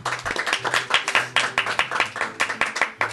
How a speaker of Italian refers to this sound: Quindi un applauso al caffè del pollaio.